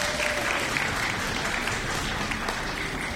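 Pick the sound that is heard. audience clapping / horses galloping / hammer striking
audience clapping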